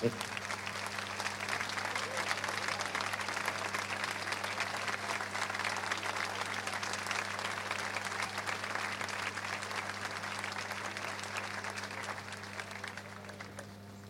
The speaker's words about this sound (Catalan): Un aplaudiment ben fort per ella.